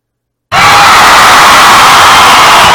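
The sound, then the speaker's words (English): A loud, sustained roar of many voices screaming and shouting at once, bursting in suddenly after half a second of silence and holding steady without a break. “Just seconds away here from some shouting.”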